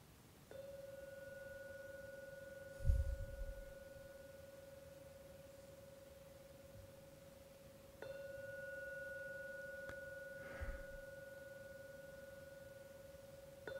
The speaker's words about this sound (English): So I'm now going to ring the gong 3 times. Please listen to every sound from the gong. When the third ringing ends, that's the time to open your eyes.